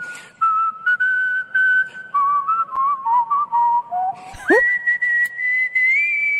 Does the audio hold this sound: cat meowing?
no